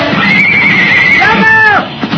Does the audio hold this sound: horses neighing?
yes